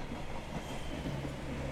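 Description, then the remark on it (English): A steady rumble of a train carriage rolling along the rails, with a continuous low drone and faint rattling clatter filling the short stretch, no voices present. “We're even alone on this train right now.”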